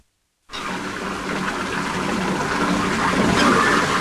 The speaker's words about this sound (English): Betty runs water in a bathtub as George stands between the twin beds in striped pajamas and drinks a glass of milk.